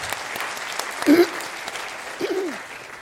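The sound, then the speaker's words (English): An audience at a Congress applauds steadily to welcome the speakers, a dense wash of many hands clapping throughout, with a couple of brief louder voiced calls or cheers rising above it partway through. “Hello, and applause by you to welcome them.”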